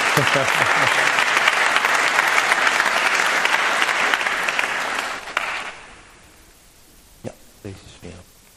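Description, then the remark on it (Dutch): An audience bursts into sustained, dense applause for a couple who have just answered yes, filling the first five seconds, then fades out, leaving quiet with a few short voice sounds near the end. “Nog een keer een applaus geven.”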